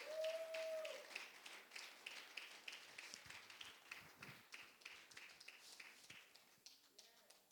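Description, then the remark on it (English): An audience claps their hands in a steady burst of applause that lasts several seconds, dense, before gradually thinning out toward the end. “We can clap our hands for them for setting all this up.”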